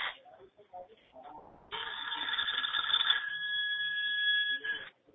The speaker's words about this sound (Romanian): Păi, da, nici aici n-am, uite, mă sună pe telefon.